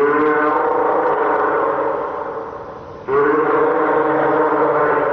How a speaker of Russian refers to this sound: А это подает голос морской котик.